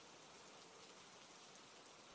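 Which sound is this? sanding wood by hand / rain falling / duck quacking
rain falling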